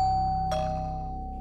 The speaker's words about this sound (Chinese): 再深吸一口气走上前去按下了大门旁边的门铃。